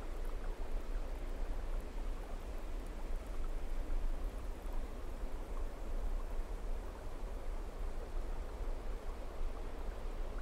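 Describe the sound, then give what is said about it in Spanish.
A waterfall seen from high on a mountain roars steadily, a dense, unbroken rush of falling water that holds the same loud, hissing texture from start to finish with no voices over it. “Y de lo alto de una montaña puedes apreciar una cascada.”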